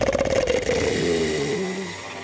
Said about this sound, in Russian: Это черный король. Он расхрапелся.